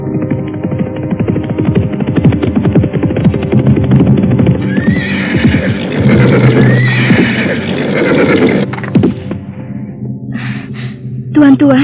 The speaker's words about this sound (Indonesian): Sementara itu, di pagi nan dini, mereka dikejutkan oleh puluhan ringkik kuda yang berhenti di depan rumah Ki Ageng.